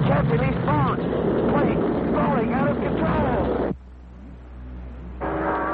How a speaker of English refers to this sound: Look out. A giant arm. Green flash spraying us with flame. Engine dying.